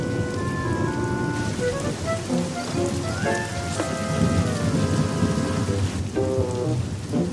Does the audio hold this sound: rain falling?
yes